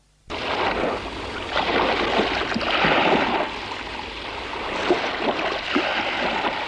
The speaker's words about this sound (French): La porte s'ouvre. Elle laisse entrer le bruit de la mer et le vent.